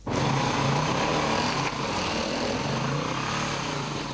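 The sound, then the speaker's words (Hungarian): A small off-road motorcycle engine runs steadily and loudly, a buzzing high-pitched drone that holds for the whole stretch with a slight dip partway through, no voices over it. Two young men ride motorcycles without a licence in the morning in a strictly protected forest area near Salgótarján, Hungary. “Fokozottan védett területen motoroztak, jogosítvány nélkül.”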